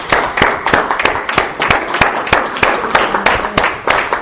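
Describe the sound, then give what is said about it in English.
An audience claps for themselves for being brave, steadily for about four seconds, a dense, loud patter of sharp hand claps with a few crisp individual claps standing out above the rest. No one speaks. “Make sure everybody's clapping.”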